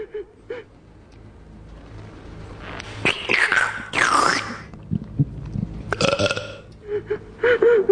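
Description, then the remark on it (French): Loud gulping and swallowing sounds come in a few throaty bursts with short pauses between, some thick and belch-like, over a quiet background. “Toi, jeune fille, avale les testicules de ton amant.”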